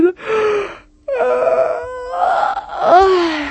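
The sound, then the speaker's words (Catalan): Someone voices an enormous, exaggerated yawn: a loud, drawn-out groaning moan with wavering pitch, broken by a brief gasp-like pause before stretching on again. “I fins i tot va fer un badall enorme.”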